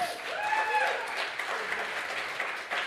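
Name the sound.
audience hand clapping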